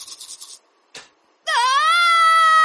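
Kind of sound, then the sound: human body sound, person screaming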